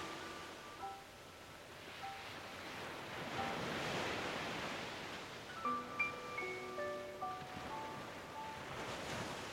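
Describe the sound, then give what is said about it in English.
Ocean waves wash in with a steady, broad rushing swell that rises and falls. Soft sustained musical tones float over the surf, and no one speaks. “Feel excitement inside, as you know when you reach the top, you will be greeted by a vast and beautiful ocean.”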